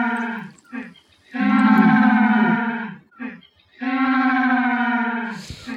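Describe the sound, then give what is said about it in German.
A male penguin, bill pointed to the sky, gives a loud, donkey-like braying trumpet call: a few short grunting notes, then two long, brassy, harmonic blasts separated by brief wheezy gasps for breath, with no voices. “Und die meist dreimal einen lauten Posaunenstoß herausbringen. Das ist das, was so eselsmäßig klingt.”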